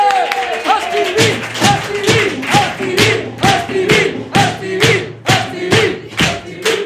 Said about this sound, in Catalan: Va, rebem un fort aplaudiment al doctor Estivill!